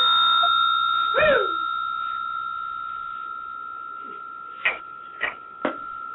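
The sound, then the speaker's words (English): A bell rings with a steady, sustained tone, a sweeping chime near the start, then three quick, sharp strikes close together near the end. No one speaks. “I got a bell, though.”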